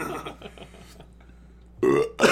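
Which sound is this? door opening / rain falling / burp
burp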